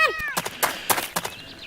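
cat meowing

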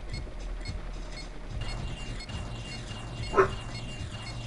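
dog barking

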